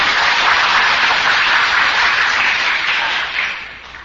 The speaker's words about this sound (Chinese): 就鼓掌的话就要么就用力嘛，不要鼓那个，看人看人家没有鼓掌，哎呦怎么又说起来了，连这个鼓掌都不肯布施，那当什么佛呢？